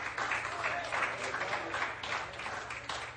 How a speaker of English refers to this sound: Give Him a hand of praise here tonight.